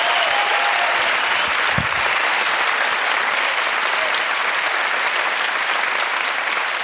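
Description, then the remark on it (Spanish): Sustained applause from a studio audience, a dense, steady wash of clapping that stays loud and even throughout with no voices over it. “Un aplauso para ellos, por favor.”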